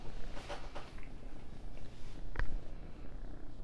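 domestic cat

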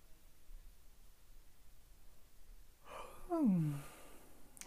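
yawn

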